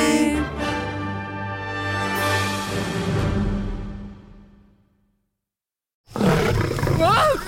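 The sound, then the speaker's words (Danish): A lion gives a single deep, rumbling roar that swells loud, then trails off into silence before a voice begins talking. “Du er jo stadig hurtigere end løven.”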